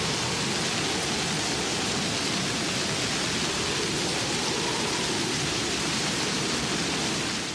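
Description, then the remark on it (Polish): A strong halny foehn wind roars without a break, a loud, dense rushing sound that stays steady for the whole stretch, with no voices present. “To jest wiatr halny.”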